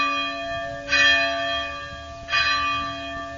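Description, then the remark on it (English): Local church bells in the town of Vernazza ring out with two clear strikes about a second and a half apart, each leaving a long, shimmering hum of overtones that lingers between them. No voices are heard. “The local church bells are chiming, and I'm already enchanted by this place.”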